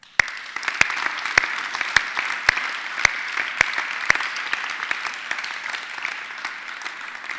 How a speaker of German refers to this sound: Und zwar am ganzen Leitungsteam, allen Teamleitern und MyChurch-Leitern, die in dieser Phase wirklich im Hintergrund Vollgas gegeben haben. Zum Teil auch im Vordergrund, aber denen wollen wir einen herzlichen Applaus geben.